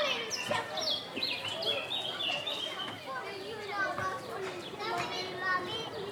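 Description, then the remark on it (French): A lively crowd of children shouting and chattering as they play in a school courtyard not far away, heard from a bench in a park beside a middle school, with a steady mix of high-pitched voices and some birdsong mixed in. “Je vois des enfants jouer dans la cour non loin.”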